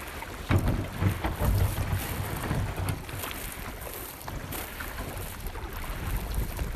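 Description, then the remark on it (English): A small boat is paddled up the Copalis River on the Washington coast, toward a ghost forest, with soft, irregular water splashes and swishes over a steady rush of wind buffeting the microphone. Nobody speaks. “which can be accessed by a quick paddle up the Copalis River on the Washington coast.”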